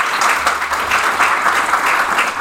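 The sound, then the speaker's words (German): An audience claps steadily for a couple of seconds, a dense, fairly loud patter of many hands with no voices over it; only those answering yes to whether they could buy more regional food are clapping. “Jetzt stelle ich euch die Frage und jetzt müssen nur die klatschen, die die Antwort als Ja beantworten würden.”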